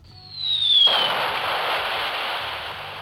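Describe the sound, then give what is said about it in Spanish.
An atomic bomb explosion sound effect played from a Noise Machine button: a high, steadily falling whistle for under a second, then a sudden loud blast that settles into a sustained, hissing roar until the end. “Caíste como una bomba. La bomba atómica.”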